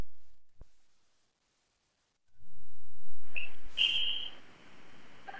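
A single shrill referee's whistle blast, about a second long, cuts sharply over the steady rumble of a gym crowd that swells up just before it.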